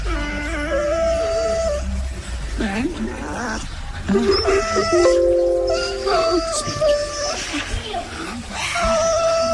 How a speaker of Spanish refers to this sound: Escuchen esto, voy a poner ahora muy, algo muy gracioso. Un perro con autotune. Literal, un perro con autotune. A ver. Ay, pero el perro se está acomodando y empieza a cantar. Escuchen.